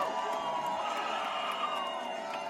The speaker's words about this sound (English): Her election night watch party was at the Park Hotel on Madison's Capitol Square, and when the race was called, the crowd erupted.